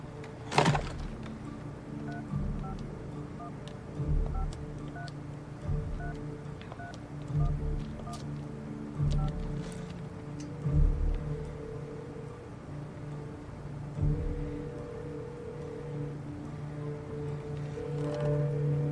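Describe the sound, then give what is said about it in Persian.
A phone call to the Evercreek pharmacy on Barton Street, Seattle, Washington connects, with steady electronic tones and a repeating ringing pattern. Soft thumps and clicks come in at intervals, and no one speaks. “در حال زنگ زدن.”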